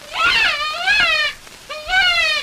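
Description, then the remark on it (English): A Burnham brothers long-range deluxe predator call, from Marble Falls, Texas, blown easy, harder, easy in two loud, wavering, high-pitched squeals, the first longer than the second, each rising then easing off, imitating a distressed rabbit's cry. “And now listen to the long-range deluxe call.”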